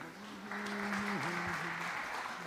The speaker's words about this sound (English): So thanks, students. Give a round of applause to students.